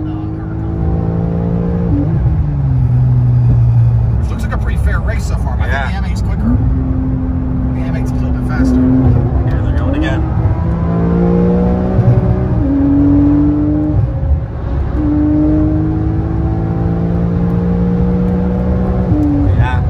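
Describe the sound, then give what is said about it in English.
A 992 sports car engine pulls hard from inside the cabin while trying to keep up with another car, its pitch climbing and dropping repeatedly as it shifts through gears, with steady road rumble underneath and occasional voices. “And we're in the 992, and we're trying to keep up with the MA.”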